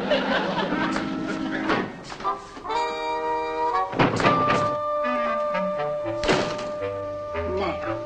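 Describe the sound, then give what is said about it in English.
Several hollow knocks on a cellar door, spaced irregularly, come through fairly loud, with voices and other sounds carrying on underneath. “Be knocking at the cellar door, as if I didn't know.”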